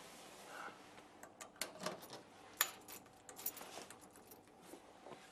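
Keys jangle in a few quick bursts of light metallic clinks as they are handed over from one person to another, with faint handling noise in between and no talking.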